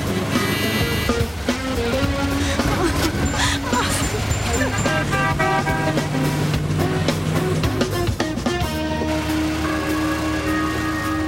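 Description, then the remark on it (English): Cars race with revving engines, one turning a sharp corner with a Beetle following it, while horns honk in long and short blasts, a loud, busy, continuous jumble of traffic noise throughout. “turns a sharp corner, and the Beetle sticks with him.”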